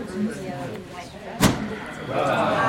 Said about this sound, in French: Regarde, ils ouvrent la porte.